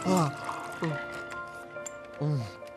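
Ice water pours into a glass with a liquid trickle running throughout, broken by a few short vocal sounds.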